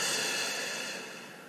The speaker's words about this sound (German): Atmen durch den Mund ein. Und durch den Mund aus.